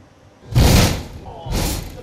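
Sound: two explosions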